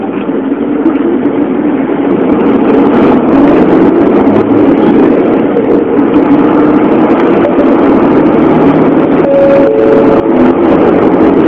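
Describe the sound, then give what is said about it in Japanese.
A heavy bus engine rumbles loudly and steadily as the bus departs, a deep continuous drone with a faint whine rising briefly near the end as the vehicle pulls away. “発車しますのでご注意ください。”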